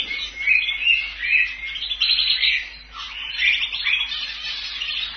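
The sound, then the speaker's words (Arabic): Several caged songbirds sing continuously, their bright, high-pitched warbles and trills overlapping into a busy chorus that stays fairly loud throughout, with no talking. “كما اشتهرت الطيور المغردة ولا سيما في بلدان كالبرازيل وإسبانيا، حيث تعج المدن بأغاريد الطيور في أقصاصها.”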